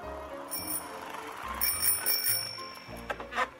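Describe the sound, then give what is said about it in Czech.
A bicycle bell on a wooden bicycle rings several times in quick succession, bright metallic dings with shimmering high overtones that linger briefly, over a low rumbling background. “Zato uhvati Frušku goru za ruku, sedne na drveni bicikl i polako, da je ne povredi, odvuče sve do Novog Sada.”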